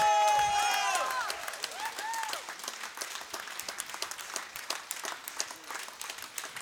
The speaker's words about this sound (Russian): Спасибо большое, очень приятно слышать ваши аплодисменты музыкантам, особенно они играли для вас, играли ту музыку, которую они хотели бы вам показать.